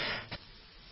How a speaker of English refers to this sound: Excuse me, I sneezed.